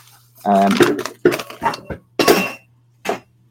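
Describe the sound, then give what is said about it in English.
A cat knocks over dishes and objects, which clatter and bang in several irregular bursts of clinking and thumping over a steady low hum, with a short ringing tone early on. “I don't know what on earth my cat is doing, just knocking shit over.”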